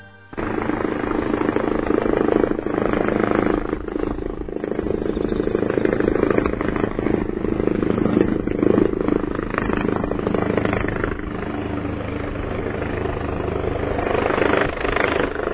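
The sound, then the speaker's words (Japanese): A helicopter's steady, loud rotor roar fills the whole recording, continuous throughout with a rough, churning low rumble and no voices. It is at a heliport on the Saba River riverbank, during a group emergency accident response drill. “さあこの音なんですが、サバ川河川敷にヘリポートがあるのをご存知でしょうか。”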